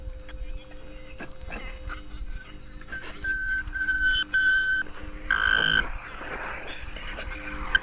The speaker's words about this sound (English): On August 19th last year, new signal sounded in outer space. A second satellite ship was orbiting.